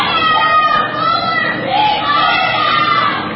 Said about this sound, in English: During an event in Raleigh, the protesters shouting, "What about health care in Gaza?"